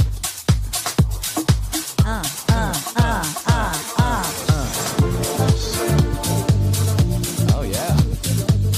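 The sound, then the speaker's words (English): Techno-style club lounge music plays loud, driven by a steady thumping kick drum about twice a second, with deep bass and layered synth tones; no one speaks. “Yeah, it's like a little touch of techno.”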